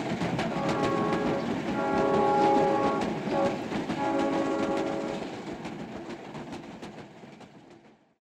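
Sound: train passing with horn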